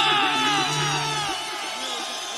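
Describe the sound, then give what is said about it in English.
A large crowd in Cali screams as loud as it can for about 20 seconds, a sustained, dense roar of many high-pitched voices, steady and loud throughout, with a low hum fading out partway. “We'll see if we can scream as loud as we can for 20 seconds.”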